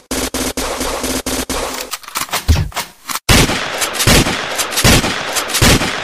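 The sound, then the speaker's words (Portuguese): Gunshots ring out in sharp, evenly spaced cracks, then after a brief lull erupt into a loud, dense, continuous barrage of rapid fire. “A bala vai comer.”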